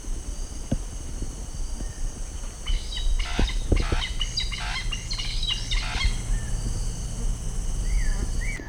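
A large bird calls at a carport behind building number one, about 60 feet away, in a burst of repeated harsh, buzzy notes from about three to six seconds, over a steady hum of insects or crickets, with a few thin chirps afterward.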